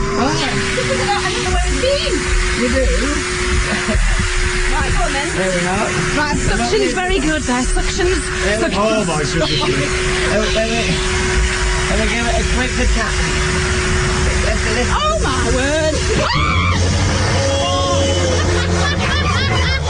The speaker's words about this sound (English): He is now pulling the Hoover along.